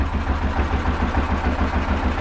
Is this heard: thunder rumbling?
no